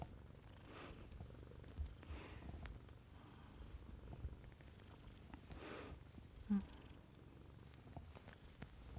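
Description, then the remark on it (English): A kitten purrs softly and steadily, a low continuous rumble that swells gently with each breath, with no one talking over it. “Get your claws trimmed, kitten.”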